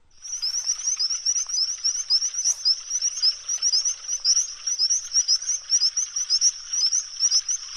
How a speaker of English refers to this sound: That sounded like frogs, crickets? That's right. Yeah? Frogs and crickets.